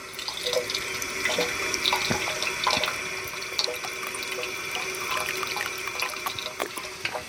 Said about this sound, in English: Ah, the water fountain. It works too, that's a good sign.